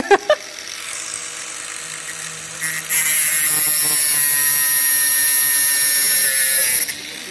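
A high-pitched motorized whine revs up after a couple of sharp knocks, then holds a loud, steady grinding screech for about four seconds before cutting off, like an angle grinder biting into metal.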